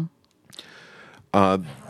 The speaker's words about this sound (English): What the hell? Dogs. Just... I'm ignoring them.